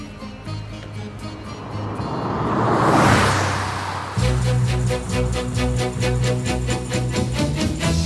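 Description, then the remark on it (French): A rushing, swelling noise builds and fades over several seconds, then a steady rhythmic instrumental passage kicks in with pulsing beats and sustained tones, no voices: the instrumental introduction of a French song. “Encore une fois, il faut rappeler qu'il n'a jamais eu sa carte au parti, mais il en est à l'époque très proche, et il commet cette chanson qui déplaira beaucoup à certains.”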